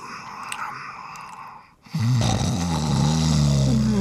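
A soft hiss fades to a brief hush, then a loud, rough snore rumbles in, a low, buzzing, drawn-out breath that wavers in pitch and carries on to the end.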